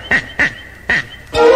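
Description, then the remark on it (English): Three short, nasal duck quacks come in quick succession with a brief pause before the third, followed by a louder, sustained sound at the end. Clear, with no talking. “The duck.”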